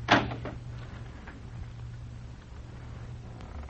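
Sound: door being shut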